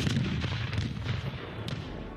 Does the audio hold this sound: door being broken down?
no